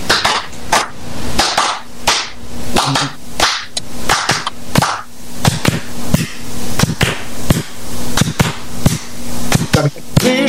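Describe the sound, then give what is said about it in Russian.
An audience knocks together in a steady rhythm at the performer's request, many sharp, dry raps landing in repeated bursts over a faint low hum, with no voices standing out. “Сейчас я прошу вам помочь мне. Вы можете вот так постучать?”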